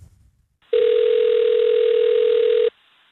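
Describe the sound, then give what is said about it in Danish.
A steady telephone ringing tone sounds once for about two seconds, a single sustained beep heard through the line on an outgoing call to Greve swimming hall, with no voices. “Spørgsmålet er, om det fungerer, og derfor vil vi ringe til Greve svømmehal.”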